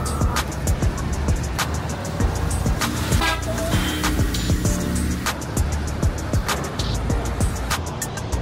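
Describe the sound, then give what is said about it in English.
Busy street traffic with a steady roar of engines, punctuated by repeated car horn toots and honks, some short and sharp, one sustained blare in the middle. “So when I first heard about congestion pricing, I thought that it was going to be great because obviously there is way too much traffic here.”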